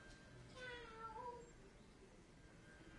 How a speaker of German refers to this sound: guck mal, Leon, was die macht, die Katze